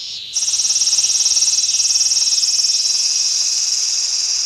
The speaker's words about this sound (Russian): Сегодня цикады такие громкие.